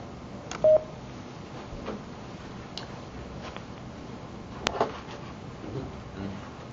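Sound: telephone keypad dialing tones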